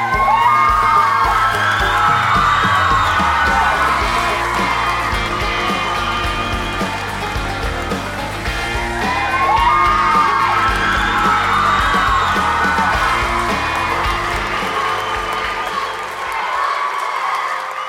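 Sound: crowd cheering and whooping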